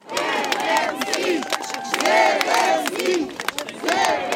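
A large crowd cheers and chants loudly, many voices overlapping in rising, arching shouts with rhythmic surges throughout, sustained and energetic without pause.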